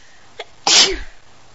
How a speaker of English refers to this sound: And every time mistress sneezes, slave, you must say bless you. Even if you are in mid-kiss, then you must bless your mistress always.